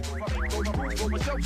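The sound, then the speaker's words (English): A phone's ringing tone on an outgoing call placed on the Hot Mess show: a steady, rhythmic electronic pattern of repeating gliding tones, fairly loud and continuous, with no one speaking. “Oh, we're ringing.”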